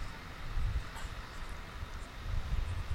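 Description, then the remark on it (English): A steady, hissing roar of ocean waves at night with a deep low rumble, swelling and easing gently in loudness over a few seconds. No voices are heard. “Just like the waves of this ocean we're hearing in the background tonight.”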